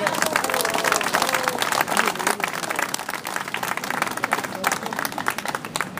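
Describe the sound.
A large audience at a Morena party gathering applauds loudly and steadily, a dense wash of clapping that holds for several seconds with crowd voices murmuring underneath.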